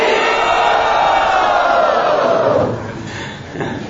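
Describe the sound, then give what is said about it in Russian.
A crowd loudly chants "Hari Bol" in unison, one long sustained roar of many voices that holds for a few seconds before dropping away into a softer trailing murmur. “Громче крикните «Хари Бол».”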